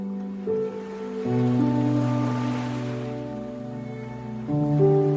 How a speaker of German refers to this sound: Spürst noch einmal das warme, goldene Licht der untergehenden Sonne auf deiner Haut, hörst das Rauschen des Meeres.